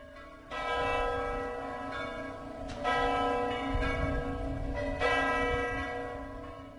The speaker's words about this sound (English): In happier times, the bells ring out from the Wawel Cathedral to proclaim great celebrations. This time the bells' peal is not so joyous, neither will it be on Sunday for the funeral of Lech Kaczyński and his wife Maria.